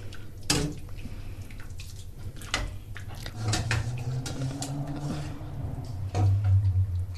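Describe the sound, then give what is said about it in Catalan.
Plates and cutlery clink and clatter as a dish of ear (orella) is served onto plates, with a few sharp knocks of dishes and a soft running-water hiss underneath; no one speaks. “Llavors te la serveixo.”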